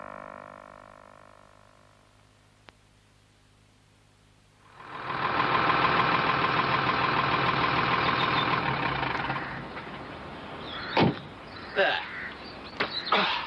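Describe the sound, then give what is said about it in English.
A tractor engine, with the tractor blocking a gateway, idles with a steady low throb, then swells into a loud, broad rumbling roar for several seconds before easing off, followed by a few sharp clanks. “Your tractor's blocking that gateway.”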